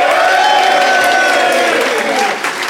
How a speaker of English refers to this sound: If you think Nish and Ben made the better case, applaud now.